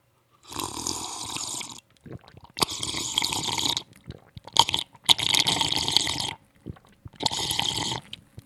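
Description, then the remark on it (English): Someone drinks water: four loud, wet bursts of sipping and gulping, each about a second long, separated by short pauses, with no talking. “Excuse me, I have to take a sip of water.”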